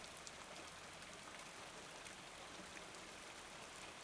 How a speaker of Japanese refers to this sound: 雨音もいい感じに聞こえてくるようになったし、寝たらきっとすっきりするよ。